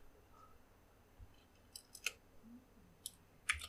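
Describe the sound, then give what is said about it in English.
A few scattered computer keyboard clicks, quiet, tapped irregularly in small bursts with short pauses between them, over a faint background hush and no talking. “Be great if I knew how to work a goddamn keyboard.”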